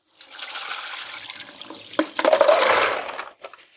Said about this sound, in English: So here I've got my beans that have been soaking overnight. They're definitely more puffed up, like they've absorbed some water. There's a little more volume there. They definitely look bigger. And I'm going to drain those now.